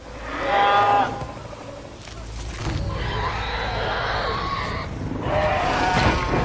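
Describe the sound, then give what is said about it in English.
Banshee creature screams from the film Avatar, made from young swan hisses, heavy horse breathing and reptile hisses, in three loud bursts: a wailing, tonal cry, then a long rough hissing roar, then another piercing wail, all layered over breathy, animal-like hisses. “The Banshees' screams sound very alien, but it turns out they're composed of the hisses of young swans, the heavy breathing of horses, and various reptile hisses.”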